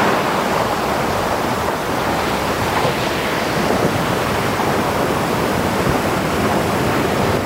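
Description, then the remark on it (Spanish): Steady, roaring sea waves wash continuously with a broad hissing surf and no clear breaks between swells, fairly loud, with no voices present. “As olas do mar.”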